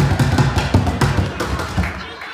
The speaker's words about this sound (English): You see him outside the hockey arena. He's there at the farmer's market. He's at art walks, folk festivals, and down by the wharf. He's the guy who bangs on upside-down plastic pails.